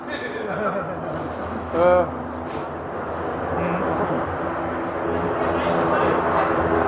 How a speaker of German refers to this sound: Warten wir ja. Eben mal kurz, der Hubschrauber macht gerade Krach.